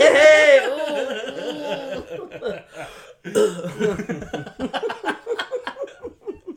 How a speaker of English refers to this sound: Coughing, like, living my life.